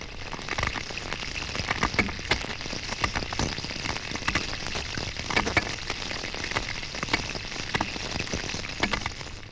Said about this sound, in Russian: У руленой зеленушки цоканье переходит в скрежет.